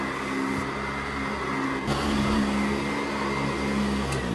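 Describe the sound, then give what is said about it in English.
A Hoover vacuum cleaner, used to clean a filthy place, runs steadily for the whole stretch, a loud continuous motor whine with a low humming drone and a brief shift in pitch partway through. No one speaks. “I need a Hoover.”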